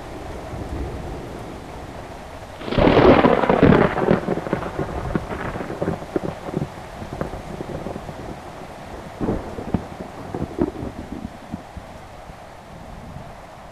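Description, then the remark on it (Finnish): Heavy rain pours down steadily, with a loud roaring surge of wind-driven downpour early on that eases into a constant, gusty wash of rain, while a fierce wind shakes a large tree in front of a veranda and a cold gust blows in through the open door. “Onpa sade. Se pauhaa ja ryöppyää oikein kunnolla. Ja hurja tuuli riepottelee nyt tuossa veran edessä olevaa isoa puuta.”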